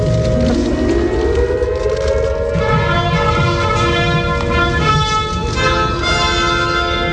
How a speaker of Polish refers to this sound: Zanim zaczęły się uroczystości z okazji 75. rocznicy wybuchu II wojny światowej, na Westerplatte zawyły syreny.